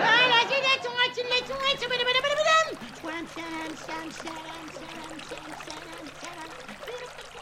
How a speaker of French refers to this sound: Il y a un petit ruisseau qui traverse le jardin, il s'appelle Le Melon.